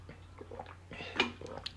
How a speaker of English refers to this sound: Let me drink some lime water real quick. Hold on.